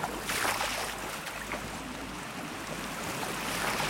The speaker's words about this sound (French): Petite rivière qui passe, petit torrent. Et tout autour, des murs de végétation.